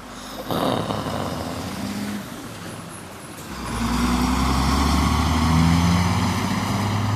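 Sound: truck engine driving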